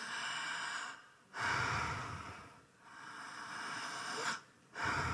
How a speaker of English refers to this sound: I want you to breathe. I want you to feel yourself breathe. You ready?